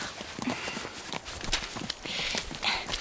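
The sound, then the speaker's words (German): Horse hooves clip-clop at a steady walking pace on a soft path as ridden horses on an orienteering ride pass from a meadow into a forest, the irregular thuds moderately loud, with a rustling hiss in the background and no talking. “Ben, die Hinterhufe unserer Pferde sind doch fast noch auf der Wiese.”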